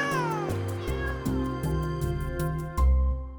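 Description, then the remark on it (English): A loud, continuous chorus of cats meowing and yowling, with overlapping drawn-out cries over a steady low droning background and no talking. “Beat it, cats!”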